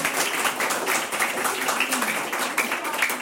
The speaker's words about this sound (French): Les voyelles, bonne réponse. Ça mérite quand même les applaudissements.